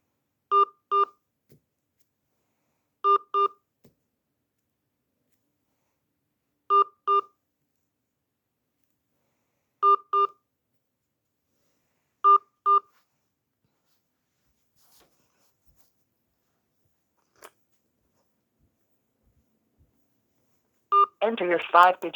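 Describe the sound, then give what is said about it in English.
Touch-tone keypad beeps as an account number is entered on a call to Dominion Energy's payment processing line, sounding in quick pairs, five double presses spaced a few seconds apart against silence, before a voice starts talking at the very end. “Please enter your account number, followed by the pound sign.”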